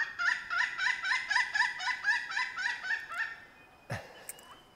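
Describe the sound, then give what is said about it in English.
A pileated woodpecker gives a loud, rapid series of ringing, laugh-like call notes for about three seconds, then falls quiet except for a brief sharp noise. “Sounds like they're laughing.”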